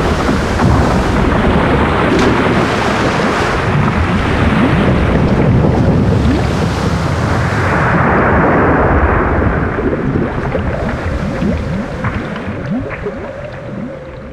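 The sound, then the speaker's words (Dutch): A violent storm at sea as a ship with a hull full of holes sinks: roaring wind and heavy crashing waves with deep rumbling, loud and continuous throughout, easing slightly toward the end. No one speaks. “Het schip verging met man en muis en rat en Flo.”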